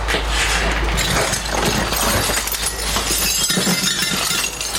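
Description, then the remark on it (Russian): Broken glass shards on a bed in a home in the Kharkiv region of Ukraine after Russian shelling clink and crunch continuously, a busy scatter of sharp little tinkles and scrapes, fairly loud throughout with no talking. “Ты не садись, там же стекло на постели.”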